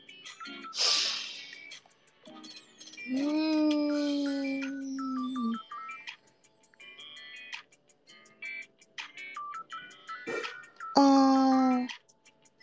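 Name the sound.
cat meowing loudly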